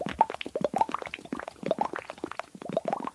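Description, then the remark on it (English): A voice mimics water with a quick, steady run of wet plops and bubbly pops, imitating a water drip and then a variation of watery bubbles, moderately loud with no speech. “Oh, I guess it would be the one I first learned that kind of blew my mind when an old guy taught me, and it was a water drip. And then sort of a variation on that, which is just sort of watery bubbles.”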